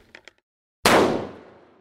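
Two faint clicks, then a single loud, sharp gunshot at the defensive wall of a castle that booms and rolls away in a long, reverberant decay. No voices are present.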